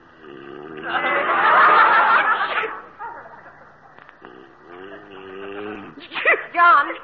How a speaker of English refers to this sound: Gesundheit. Thanks.